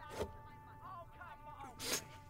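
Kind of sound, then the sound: human body sound, sneeze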